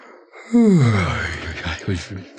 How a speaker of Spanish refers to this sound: Paolo bosteza perezosamente.